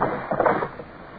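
A brief wooden clatter as the sculls of a rowboat are shipped and the hull bumps ashore at a river bank: a cluster of dull knocks and scrapes, then a quieter settling thud, with no voices.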